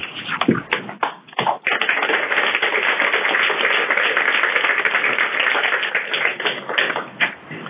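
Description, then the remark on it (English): An audience in Philadelphia applauds after a speech on a blustery winter evening, beginning with a few scattered claps that quickly swell into a dense, steady wash of clapping lasting several seconds, with no voices over it. “And if you can't hear, there was applause here.”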